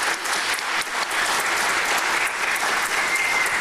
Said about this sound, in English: I will ask for a big applause for those who represent Chicago so well.